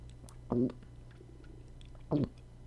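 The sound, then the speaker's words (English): Two short sipping gulps of a discontinued energy drink about a second and a half apart, each a brief wet swallow over a steady low background hum, with no talking. “Just a sip of discontinued and possibly lethal energy drink.”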